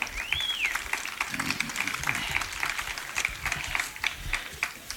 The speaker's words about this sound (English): Isn't that wonderful? Once more, let's applaud them.